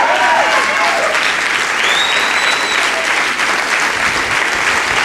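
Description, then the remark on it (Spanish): A crowd claps steadily and loudly for several seconds, a dense, sustained wash of applause with faint cheering or whistles mixed in. “Alguien es capaz de ponerse de pie y aplaudir.”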